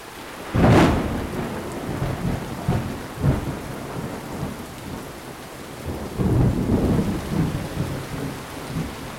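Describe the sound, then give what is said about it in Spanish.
Heavy rain pours steadily while a sharp crack of thunder bursts near the start, followed by low rolling rumbles that swell again later, loud with no voices. “Y nos vamos despidiendo porque ya se dejó venir la lluvia y se ve que es de la que moja.”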